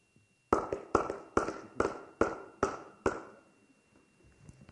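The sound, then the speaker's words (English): A single person claps their hands seven times in a steady, even rhythm, each clap sharp and crisp with a short ringing tail, followed by near silence. This is the way women in Zimbabwe clap to say thank you. “The women, when they clap and say thank you, it's this way.”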